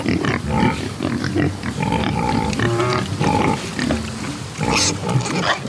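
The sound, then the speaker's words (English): Dozens of black Iberico pigs grunt and squeal continuously, several animals overlapping in a busy, noisy chorus with snorts and rustling as they root around in the dirt under a pecan tree in Georgia. “Finally, we get to what I really came here to see. Iberico pigs. Dozens of them.”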